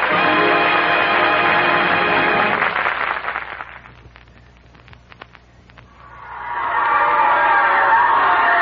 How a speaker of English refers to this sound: Why all the cheering? Haven't you heard?